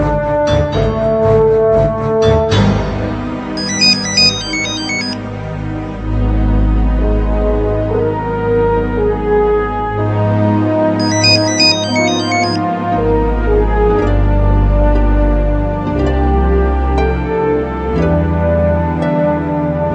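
Orchestral music from the Concierto para Teléfono Móvil y Orquesta, with full low strings and brass, interrupted twice by bright, chirpy mobile phone ringtone melodies of that era, such as the typical Nokia one, that cut in briefly at a high pitch over the orchestra.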